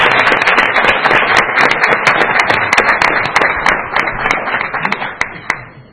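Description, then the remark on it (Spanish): A crowd in a hall claps steadily for an attendee being introduced: a dense patter of many hands filling the whole stretch, thinning slightly toward the end as a few sharper individual claps stand out. “Un aplauso para él. Un aplauso, por favor.”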